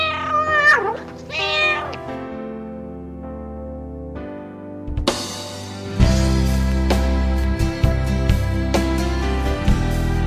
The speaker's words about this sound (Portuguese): Especialmente a você, gatinho. Miau! Ah, já não gostei. Negócio de concorrência de gato aqui? Puxa. Não, só esse.